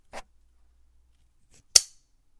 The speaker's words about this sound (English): And this is what the clasp sounds like. That's it open.